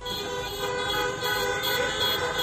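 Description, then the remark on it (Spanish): Many car horns honk at once in a continuous, overlapping blare, sustained and fairly loud throughout with no pauses, from a vehicle protest by Deportivo de La Coruña supporters' clubs in A Coruña, Spain, with around 400 vehicles including a cement mixer. “Así suena evidentemente esta concentración porque cada uno va con su coche.”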